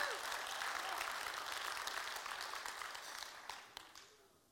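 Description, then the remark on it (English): An audience claps hands for the Lord in a dense, steady wash of applause that holds strong for several seconds, then thins out into a few scattered final claps as it fades. “Come on, give the Lord a hand clap right there.”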